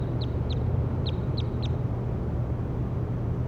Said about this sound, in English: That was bird 60.